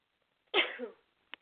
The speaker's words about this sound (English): I have to sneeze again.